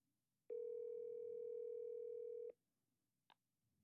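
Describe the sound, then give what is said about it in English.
A single steady telephone ringing tone on a call to a Long Island area code number sounds for about two seconds over faint line hiss, then cuts off, followed by a short click. No one speaks. “They're not picking up. There's no way.”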